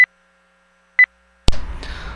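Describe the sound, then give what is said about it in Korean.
Two short, clear electronic beeps spaced about a second apart, a telephone talking-clock time-signal pip heard from the phone line, followed by a burst of clicky line noise and hiss. “이렇게 전화 쪽에서 오는 소리만 들어봤습니다.”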